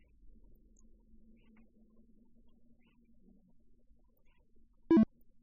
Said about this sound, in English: The BT Speak is rebooting. We heard the shutdown tones, so the update has been installed.